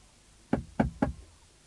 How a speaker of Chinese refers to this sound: 这个时候天色已经很黑了，远远的看着城墙上边摇摇晃晃，好像有点灯光，来到城门底下就敲门了，开门呐，开门呐。